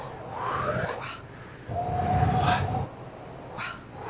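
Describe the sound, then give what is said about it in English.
A voice makes long, breathy voiceless 'wh' exhales as a breath exercise, two main drawn-out puffs of air with a faint whistling edge, then a shorter breath at the end, with no words spoken. “And elongating that, so kind of WH.”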